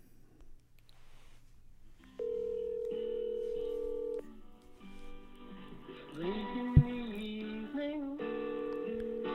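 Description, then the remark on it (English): An electronic telephone ringing tone: sustained, buzzy beeps that step between a few pitches over several seconds, fairly loud and steady, with one sharp click partway through and no one talking. “It's ringing already?”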